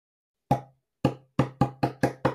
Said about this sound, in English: So actually, do you want to show? So would you do that to your board? With a hammer? Wow, no!